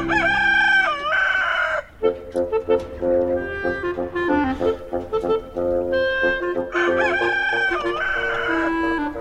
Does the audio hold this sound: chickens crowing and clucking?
yes